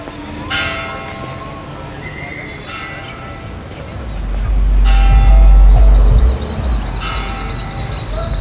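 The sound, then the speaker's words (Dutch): The three bells of the cathedral on El Zócalo, the central square of Mérida, ring on a hot day in a slow sequence, struck roughly every two seconds, each bright, layered tone hanging and fading, while a low rumble swells briefly underneath midway through. The cathedral is built of old stones, some from a former Maya temple. “Dat zijn de drie klokken van de kathedraal.”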